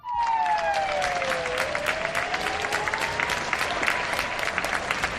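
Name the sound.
applause from balconies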